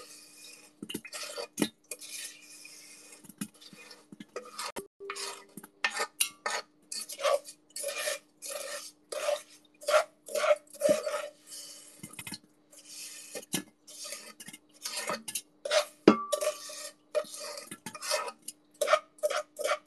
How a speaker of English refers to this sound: I'm just scraping all the rest of the sand out.